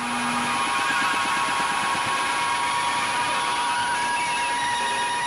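A dense, unbroken wall of harsh noise music from an hour-long noise album, with shrill sustained screeching tones and a throbbing, pulsating texture underneath. It is loud throughout, with no voices.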